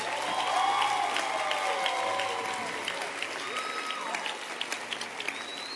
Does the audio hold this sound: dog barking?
no